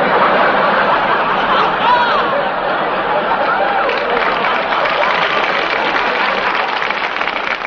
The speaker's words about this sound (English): Please, applaud on cue, please.